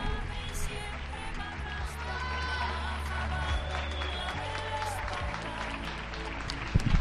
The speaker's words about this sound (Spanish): Ya han empezado los aplausos.